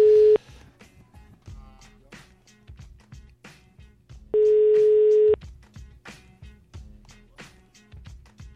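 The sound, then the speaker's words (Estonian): A telephone ringing tone sounds twice as Tre Raadio hosts call a listener whose birthday is coming: a short steady beep at the start, then a longer one about four seconds later, both loud and clear over faint background music. “Ja nii, aga elistame siis vast selle sünnipäeva lapsele, siis ütleme nii. ja vaatame, kuidas tal elu läheb. Äkki võtab telefoni ka vastu.”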